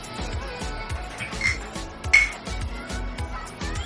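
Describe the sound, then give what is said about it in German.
Beer glasses clink together twice in a toast, two bright ringing chinks over a noisy, crowded background with a steady low thumping beat and murmuring voices. “3 Bierchen bitte. Jo, 3 Bierchen.”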